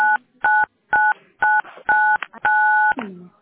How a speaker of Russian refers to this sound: Не-не-не-не-не, сейчас, какие-то кнопки вы нажимаете.